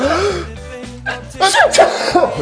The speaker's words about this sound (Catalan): els que vulgueu, em podeu fer un esternut, si us plau?